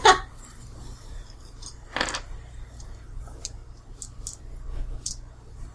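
Dice clatter on a hard surface as a player rolls a strength check in a tabletop role-playing game, trying to dig under a metal door: a sharp knock, then a brief rattle, followed by a scattering of light clicks as they settle, with no one speaking.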